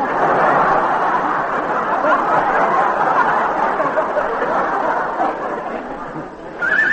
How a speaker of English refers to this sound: There, you see? That's my horse. Where'd you go, Dreamy?